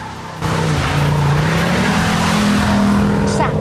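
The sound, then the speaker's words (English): A car engine roars to life and revs hard as the car speeds off down the road, its pitch climbing steadily, with a brief squeal of tires near the end; loud. “gets into the car with Jean and they speed off down the road”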